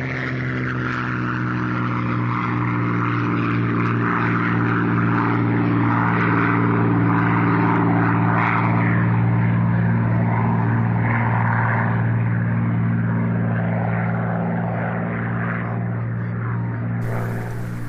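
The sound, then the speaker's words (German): A steady, droning roar of propeller aircraft engines during an air raid in early 1945, with strong low harmonic bands holding a constant pitch throughout, loud and unbroken, with no voices. “Ein Fliegerangriff, Anfang 1945.”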